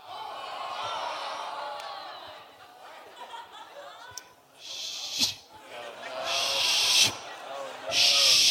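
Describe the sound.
After a stretch of voices talking and laughing, a person shushes three times, each a loud, breathy drawn-out "shh" close to the mic, the last ones longer and more forceful.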